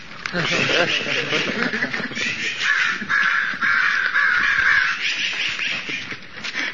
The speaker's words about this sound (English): The crows here. Why, they're killing crows. Birds in a feather flock together. They're crows, so they're keeping crows.